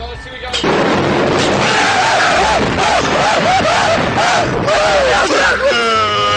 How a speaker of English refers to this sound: Moving on, I've got two guys going on a roller coaster, and one of them screams for his mommy.